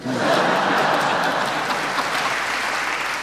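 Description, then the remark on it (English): An audience claps in a steady, dense patter that holds at an even loudness for about three seconds, with no voices over it. “I waited for applause.”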